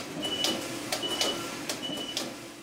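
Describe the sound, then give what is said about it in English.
A knitting machine alarm sounds to signal that the knitting is ready: a steady thin electronic tone repeating in short beeps about every half second, over rhythmic mechanical clatter and a low machine hum, with no talking. “That alarm we hear is telling you that the knitting is ready.”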